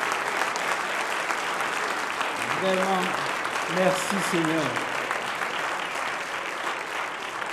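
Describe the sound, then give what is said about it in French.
An audience stands and claps steadily and loudly throughout to acclaim the Lord, a dense, continuous wash of applause, while a man's voice speaks briefly over it in the middle. “Je vais vous inviter à vous lever et acclamer le Seigneur pour ce qu'on a entendu. Allez, acclamez le Seigneur.”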